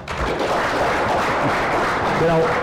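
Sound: audience clapping in agreement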